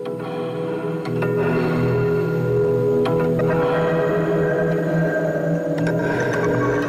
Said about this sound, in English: like maybe just a drone like that might be the bed. And then I start, you know, manipulating things through delays